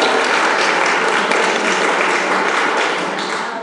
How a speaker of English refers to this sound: Round of applause.